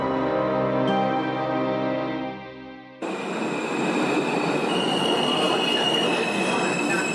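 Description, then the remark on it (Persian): A steady low rumble abruptly gives way to a loud, harsh grinding with sustained high-pitched metallic squealing, like train wheels braking hard on the rails, as a train jolts and comes to a stop, continuing to the end. “قطار تکانی خورد و از حرکت ایستاد و صداهای تاپ تاپ و ترق تروقی که از دور آمد متوجه شدند که چمدانها از رفا پایین افتادند.”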